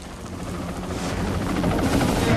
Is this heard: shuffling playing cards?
no